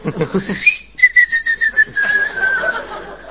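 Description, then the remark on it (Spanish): A person whistles: a quick rising note, a brief pause, then a long, steady tone that pulses slightly and gradually trails off, with a faint murmur of voice at the start. “No, no, la rueda y el silbido.”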